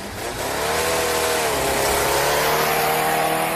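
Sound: race car engine revving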